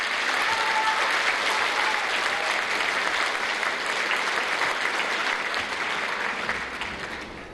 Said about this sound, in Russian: Ваши аплодисменты, друзья.